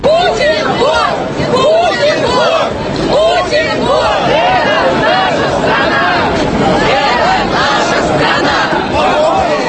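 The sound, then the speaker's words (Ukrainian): A large opposition rally crowd chants slogans in unison in the evening on Bolotnaya Square in central Moscow, supporting defendants in the Bolotnaya case, about 8,000 to over 20,000 people; many voices shouting together loudly and steadily for the whole stretch, with a rough, rhythmic rise and fall over a constant babble. “Такі гасла звучали сьогодні ввечері в Москві.”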